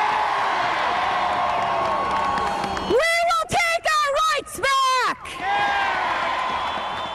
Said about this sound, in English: And that's the only podium audible place to save your ears, because there was basically everybody was shouting to be heard that day.